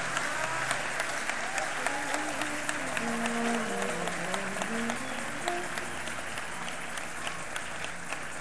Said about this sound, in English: If those hands are anointed, clap them.